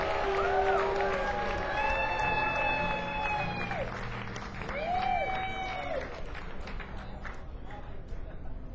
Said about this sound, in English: Give him a big, big round of applause. Come on, I want to hear you. Show him some love, people. Come on.